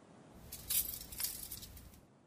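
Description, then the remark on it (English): A short, quiet jingle of keys being picked up from under a little stone owl at Owl Hall, a few bright metallic clinks bunched together over about a second, with no voices. “They told me the keys were under the owl on the left.”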